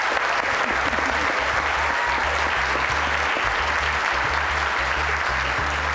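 A large audience applauds a chef steadily, a dense, continuous clatter of many hands clapping at once, loud and sustained for the whole stretch with no voices standing out.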